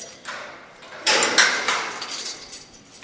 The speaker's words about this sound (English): So I've taken off the first lock, but now I've locked another one. Unpinning the door.